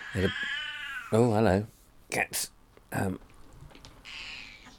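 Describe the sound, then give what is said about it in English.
A cat meows loudly, a few drawn-out, wavering cries with short sharp calls between them, then a softer, quieter stretch at the end. “Hello, cat. Let me just deal with this cat for a second.”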